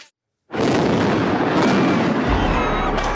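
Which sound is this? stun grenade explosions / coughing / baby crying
stun grenade explosions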